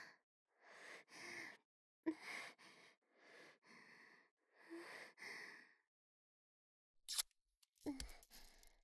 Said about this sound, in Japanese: そうやってテープで貼るんだ。